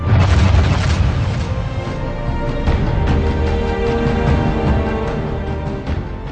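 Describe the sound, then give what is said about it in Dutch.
A deep, loud explosion boom with heavy low rumble that rolls on steadily for several seconds, filling the foreground with no voices present. “Elke afwijking in die afstemming zou betekenen dat sterren zoals de zon nooit zouden kunnen tot stand komen of na korte tijd vernietigd zouden worden met een enorme explosie.”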